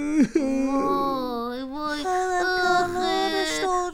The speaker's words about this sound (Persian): چی شده؟ چرا گریه میکنی؟ گریه نکن.